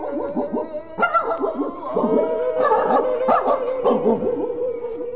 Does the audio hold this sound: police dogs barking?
yes